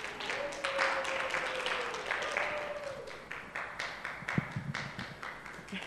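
An audience applauds, many hands clapping in a dense, continuous patter for about six seconds, with a faint steady tone humming underneath at first.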